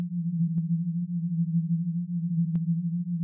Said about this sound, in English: Just listen to the drone. That's all you have to do. The sound is warm and sweet, you find.